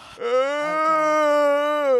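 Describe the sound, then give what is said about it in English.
A loud, drawn-out vocal yawn imitated by a person, one sustained voiced groan lasting about two seconds that starts abruptly, holds a steady tone and swells slightly at the end. “A yawn that you shouldn't do in public that my dad did at Panera Bread.”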